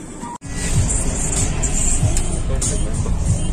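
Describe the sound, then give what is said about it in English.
A car driving away from a viewpoint, heard as a steady, fairly loud low rumble of engine and road noise that runs continuously after a brief cut near the start. “Okay, let's get into the car.”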